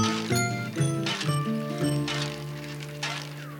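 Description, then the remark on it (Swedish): A bicycle is ridden along, giving off a steady whirring hum that shifts pitch in a few steps, with light clicks and rattles over it and no voices. “Det är lite för långt att gå. Tur att jag har en cykel.”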